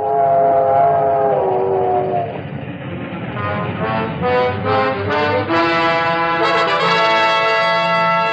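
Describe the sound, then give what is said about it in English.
An ammunition train rumbles steadily along the rails, with drawn-out whistle tones rising and shifting over the continuous heavy clatter. No one speaks. “Nowadays, an army marches on its ammunition trains.”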